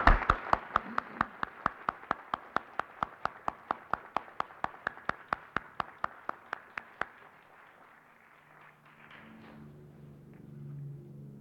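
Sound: audience applause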